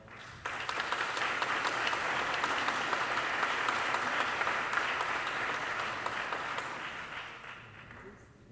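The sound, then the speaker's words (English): An audience applauds a woman speaker at an evening event, a dense wash of many hands clapping that starts abruptly, holds at full strength for several seconds, then gradually fades toward the end. No one speaks over it. “And please give another round of applause to that wonderful lady,”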